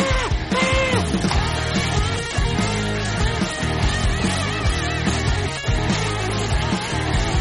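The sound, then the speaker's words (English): A crowd cheers wildly for a stunt jump, with loud, sustained yelling and whooping that rises and falls in pitch and holds steady for several seconds without a break. “Okay, and the crowd goes wild.”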